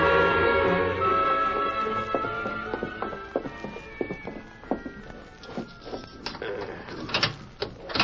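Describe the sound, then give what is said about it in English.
A jail cell door being unlocked: a series of sharp, irregular metallic clicks and clanks as the lock is worked, following a fading sustained tone at the start. “There's the door unlocked”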